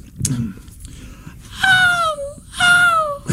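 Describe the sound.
A person imitates bird calls with their voice, making two drawn-out, high whistly cries that slide downward in pitch, fairly loud, with a short gap between them.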